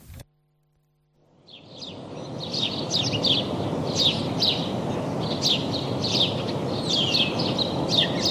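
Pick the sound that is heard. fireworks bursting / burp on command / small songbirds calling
small songbirds calling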